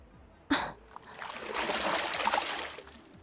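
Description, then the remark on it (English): A sudden, sharp splash as water is splashed onto a person, followed by a second or so of spraying, trickling water that swells and then fades. No one speaks. “Damn right I just splashed you.”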